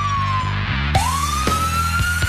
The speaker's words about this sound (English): we've used an actual police siren that we got here locally from the police department, and the thing is just super loud